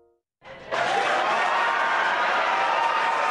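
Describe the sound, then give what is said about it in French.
Sustained applause from a large crowd bursts in after a brief quiet moment and holds steady and loud, a dense wash of clapping with scattered cheers, celebrating the splashdown of a SpaceX Dragon capsule carrying four space tourists in the Atlantic Ocean off Florida. “Des applaudissements pour l'amérissage de la capsule Dragon dans l'océan Atlantique au large de la Floride.”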